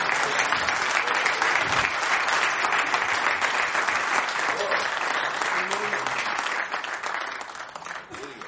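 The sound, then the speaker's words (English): A church audience claps together as a clap offering to God, a dense, steady wash of applause lasting several seconds, loud and even, then gradually thinning and fading out toward the end. “Let's give a clap offering to him.”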